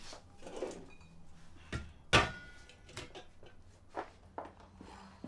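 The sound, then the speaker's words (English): A fridge door is angrily slammed shut with one loud, sharp thud, followed by quieter clicks and knocks as a cupboard is opened and its contents are rummaged through, while looking for a Coke. “She angrily slams the fridge closed and checks a cupboard.”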